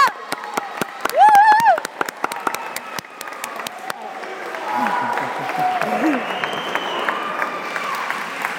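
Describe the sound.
A crowd claps steadily for several seconds, with a rising, wavering whoop of cheering riding over the applause; the clapping then thins into a loud murmur of crowd voices.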